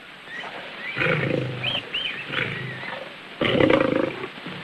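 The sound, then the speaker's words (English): A lion roars as it nears, in a series of deep, rumbling growls, with a louder, heavier roar near the end and no one talking. “The lion nears.”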